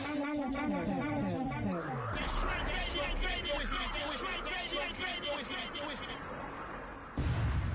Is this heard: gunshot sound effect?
yes